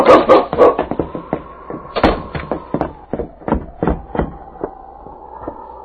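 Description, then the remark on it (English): A team of sled dogs, ready to go, barks and yips excitedly in a rapid, irregular flurry of overlapping barks, with a thin sustained whine running underneath throughout. “My dog team is ready.”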